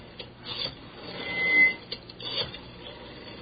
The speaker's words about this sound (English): Let's just listen to you dial. Well, okay, I'll do that then, but you're going to hear a lot of clicks and... That's quite all right by us. Dial tones. Let me at least lift the receiver up for a second.